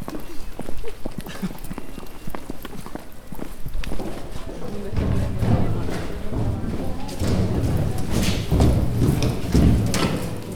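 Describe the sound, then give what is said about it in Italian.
Hard heeled shoes clop in a quick, uneven rhythm like horse hooves, fairly loud, then fade into a busier, noisier stretch with people talking. “Sembrano degli zoccoli di cavallo.”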